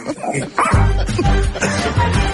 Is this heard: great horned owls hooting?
no